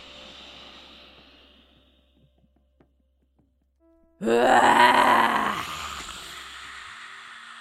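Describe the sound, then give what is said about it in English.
After a soft, breathy inhale and a short silence, a person lets out a single loud, raspy, throaty roar imitating a lion, with the tongue stuck out, which fades into a trailing exhale. “So I want you to really roar like a lion, really stick that tongue out.”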